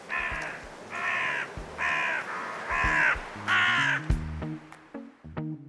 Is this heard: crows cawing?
yes